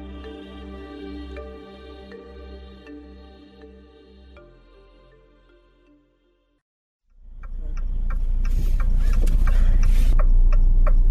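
A steady tonal hum with faint ticks fades to a moment of silence, then a loud, continuous low rumble of road and engine noise fills the cabin of a moving car.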